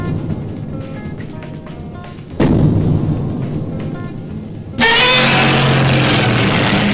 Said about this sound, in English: Now, there's a sound from film history. Godzilla, hundreds of feet tall, stomping, roaring, swinging that tail. Maybe he's taking out Tokyo. Maybe he's battling another monster. He's always colossal.